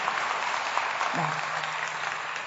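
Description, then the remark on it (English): Sustained audience applause for a woman who spoke in front of everyone, a dense crackle of many hands clapping at steady loudness throughout, with a low hum briefly rising underneath partway through. “if you want to give her a round of applause for her courage to talk in front of everybody.”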